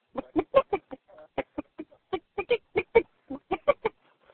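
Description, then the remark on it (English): A voice imitates a hen clucking contentedly while gently pecking the ground in a chicken coop: a steady run of short clucks with brief pauses, moderately loud and with nothing else behind them. “The disturbed chicken coop begins with a hen gently picking the ground, like so.”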